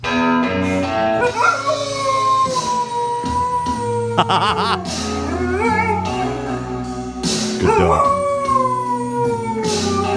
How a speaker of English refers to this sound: this is a dog singing along to Chris Stapleton's Tennessee Whiskey